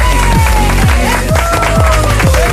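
A loud, steady wash of game-show audience applause and cheering welcoming a contestant, mixed with a rhythmic musical jingle whose low tones repeatedly swoop downward about twice a second.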